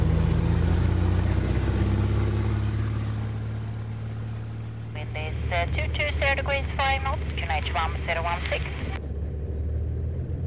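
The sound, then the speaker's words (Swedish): The engine of a small airplane with call sign Sigurd Petter Ludvig revs for takeoff on a flight to Johannesberg at Västerås. Its loud, steady, deafening low drone fills the whole clip and swells midway, with a thin, radio-like voice talking over it in the second half. “Och motorljudet, det är bedövande och samtal är inte att tänka på.”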